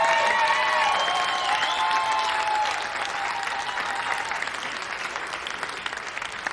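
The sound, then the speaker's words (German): Sustained audience applause for the guest Olli Schulz, a dense wash of clapping with some cheering and whistles at the start, staying loud throughout and easing slightly toward the end. “So, ein Applaus so, komm, für Olli Schulz.”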